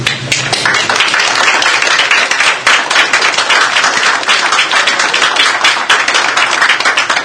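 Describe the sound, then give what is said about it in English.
A crowd applauds steadily for several seconds during constituent input on an ordinance, a dense, loud wash of many hands clapping at once with no one speaking over it. “I'd ask you not to applaud on these, because this is constituent input, and there's different opinions in here.”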